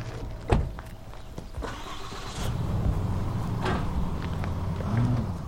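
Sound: truck driving away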